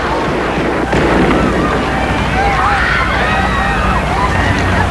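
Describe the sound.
Far-off gunfire and shouting: a single dull bang early on, then wavering cries and raised voices rising out of a constant rumbling, crowd-like background noise.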